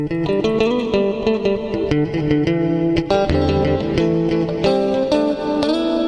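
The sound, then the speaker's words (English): A plucked instrument plays a steady run of notes processed through a long reverb effect, each note blurring into a lingering wash that hangs under the next. It is fairly loud, with no voices. “And we can try it with the glorious long reverb.”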